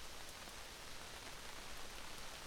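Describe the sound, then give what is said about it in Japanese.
Steady rain pours down without a break, a dense hiss of drops spattering across a surface, evenly loud throughout with no voices. “こんな雨の中、傘まで差してくれて。”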